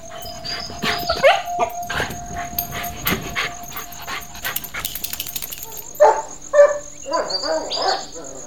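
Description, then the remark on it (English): A black Kelpie dog with a white patch on its chest barks in scattered, uneven bursts, mixed with whimpers and panting, over a steady background hum with no one talking. “A Kelpie, black as ink, with a white patch on his chest.”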